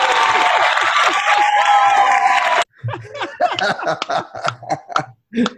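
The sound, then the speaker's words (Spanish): A crowd claps loudly and steadily for a couple of seconds, with some cheering mixed in, then the applause cuts off abruptly and people start talking. “¡Aplauso de nuevo!”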